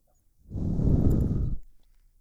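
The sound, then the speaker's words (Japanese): A single soft, breathy exhale blown into the listener's ear, rising and fading over about a second, airy and intimate with no words spoken. “ほら、私の吐息が奥に届くでしょ？”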